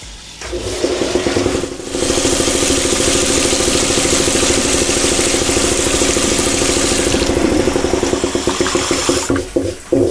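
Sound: air compressor running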